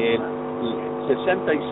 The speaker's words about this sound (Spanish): Y un ruido ahí. Sí, Sí, a ver, le cerramos ahí. Sí, parece que va manejando.